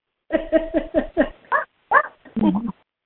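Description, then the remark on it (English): A small chihuahua dog yaps and whines in about eight short, high-pitched bursts, first in a quick run and then more spaced out, fairly loud with no other sounds. “I have a Lily, too. A chihuahua.”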